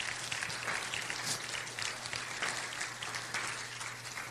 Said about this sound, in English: Come on, clap your hands.